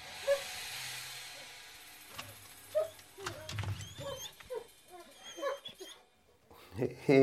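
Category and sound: animal, dogs whimpering and yipping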